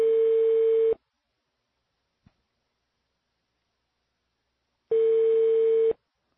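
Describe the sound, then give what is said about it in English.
Two long, steady telephone beeps, each lasting about a second, sound four seconds apart at a buzzy mid pitch in place of a normal ring, while calling journalist Glenn Greenwald in Rio. A tiny click falls in the silence between them. “You get beeps instead of rings.”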